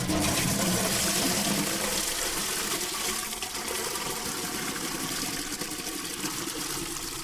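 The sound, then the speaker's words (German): A farmer fills a watering can with water on a small green oasis field in northern Burkina Faso near the Malian border, in November: a continuous splashing gush with a bright hiss that holds at an even level throughout, with no voices. “Ein Bauer füllt seine Spritzkanne mit Wasser.”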